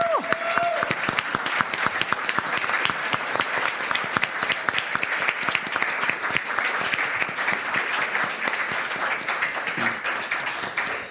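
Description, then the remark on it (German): Sustained applause from a sizable audience for two performers, dense overlapping claps for about eleven seconds at a steady, fairly loud level, with no speech on top. “Ja, sie wollten gerade flüchten vor eurem Applaus.”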